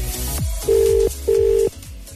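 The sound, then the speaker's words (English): An outgoing phone call to Limerick ringing: two steady electronic ring tones, each about 0.4 seconds, separated by a short pause, heard clearly over a faint background. “It's ringing.”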